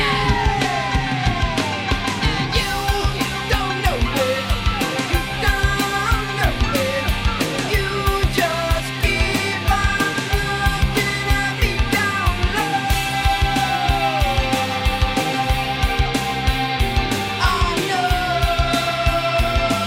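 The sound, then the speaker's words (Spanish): A loud rock song plays throughout, with pounding drums keeping a steady fast beat under dense, distorted guitars and sliding tones, no talking over it. “Está ruidoso, Mario, ¿eh?”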